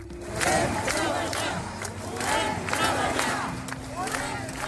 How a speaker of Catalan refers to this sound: La majoria vestits a carrer, però també alguns amb davantals i roba de feina, el sector ha sortit avui al carrer amb un crit unànime.